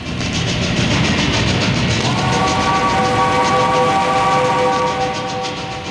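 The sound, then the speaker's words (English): A train rumbles steadily and loudly along the rails, with a sustained metallic tone ringing out over the noise for a few seconds in the middle. No voices. “Ride this train up and down and across a strange, wonderful land.”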